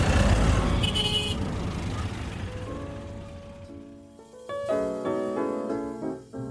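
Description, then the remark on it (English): Busy street traffic in New Delhi: a dense wash of engine rumble and road noise, then a loud chorus of overlapping car horns honking, some long and sustained. “when you actually experience a day riding around in New Delhi traffic.”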